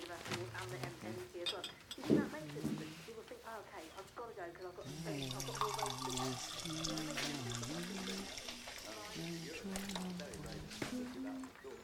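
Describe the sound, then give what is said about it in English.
A tap at a sink runs with a steady, hissing rush of water as a woman fills a glass with water, starting partway through and continuing under a voice. “She runs the tap and fills a glass with water.”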